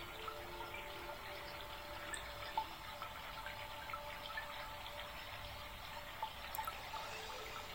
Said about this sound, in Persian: نزدیکتون یک رودخونه جاریه. صدای آب رو به وضوح میشنوید.